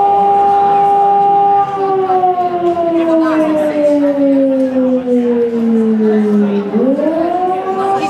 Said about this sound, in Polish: W Polsce mamy dwa rodzaje sygnałów. Alarm modulowany, jest to sygnał przywołujący, informujący o niebezpieczeństwie, jest to sygnał alarmowy.